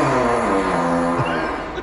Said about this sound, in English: That was the Addams Family fart.